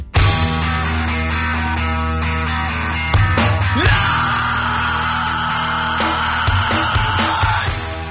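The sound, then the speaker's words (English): A loud recorded scream played on the radio show Dorf on Sports on the Sports Byline USA Radio Network: one long sustained high-pitched wail lasting several seconds, rising out of a dense, noisy, music-like backing that fills the whole clip. No speech. “We know you love hearing that scream.”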